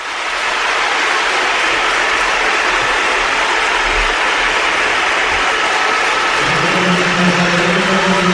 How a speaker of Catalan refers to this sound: Ovació, sonora ovació per Vinícius, unànime, tot el Bernabéu, aficionats del Brasil i aficionats de la selecció espanyola, que han homenatjat, han aplaudit i doncs reconegut unànimament la figura de Vinícius,